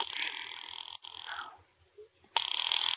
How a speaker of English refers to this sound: Can't you ring them direct? Ringing the police department. Right.